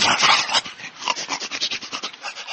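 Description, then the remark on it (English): A dog named Bunky, presented as a talking dog, whimpers and huffs, a rough breathy burst at first, then a quick series of short, even whines and pants with no one speaking. “There's the man who sold me this talking dog.”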